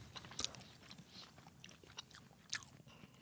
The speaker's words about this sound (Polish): Żeby było słychać, że gryziemy, tak? O to ci chodzi? Okej. Okay. No, ja miałem bardziej chrupki.